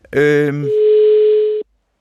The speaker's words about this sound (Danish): Det var ringetonen. Vi prøver igen.